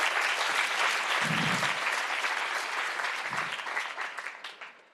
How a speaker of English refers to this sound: Come on, let's put our hands together for hey, the Lord. Hey, lass uns mal für den Herrn applaudieren.